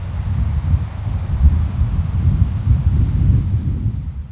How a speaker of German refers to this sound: Dann lässt sich die friedliche Stille in dieser schönen, offenen Landschaft besonders gut genießen, wenn nur das Meer rauscht und der Wind durch die Gräser streicht.